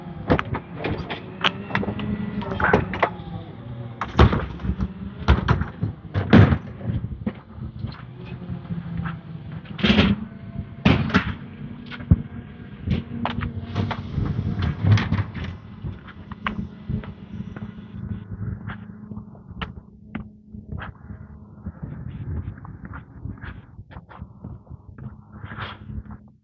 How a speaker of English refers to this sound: Oh, and that was a garbage truck, just so, like, we needed a little bit of extra noise here.